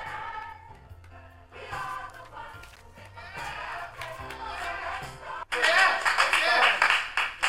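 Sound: applause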